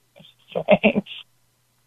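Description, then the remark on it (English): A brief muffled voice comes through a phone line, then goes quiet before a steady electronic tone abruptly starts at the end, like a line left after hanging up. “All right, hang up the phone.”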